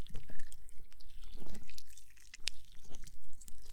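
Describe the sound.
Wet slurping and sucking sounds of someone slurping up brain juice, with small squelches and liquid clicks, continuing unevenly for a few seconds with no voices.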